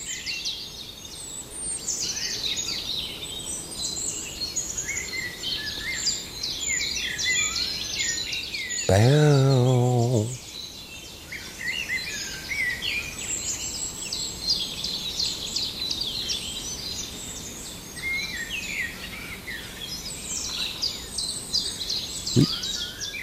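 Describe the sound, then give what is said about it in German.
A blackbird sings a rapid, varied stream of phrases that imitate other birds' calls, including a linnet, carrying on steadily for the whole stretch. A person's voice cuts in briefly partway through. “Fast wie so ein Papagei. Oh, da emittiert er einen Bluthäfling.”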